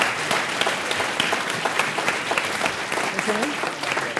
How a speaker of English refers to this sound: You, why don't you come down? Round of applause, please, for our brave man.